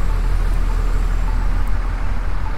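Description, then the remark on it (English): Steady, loud street traffic at a light-controlled intersection, with parallel traffic moving and a deep engine rumble from a bus. No voices. “Like, I'm waiting for this bus, because it... Well, I'm going to go ahead and go. We've got our parallel traffic.”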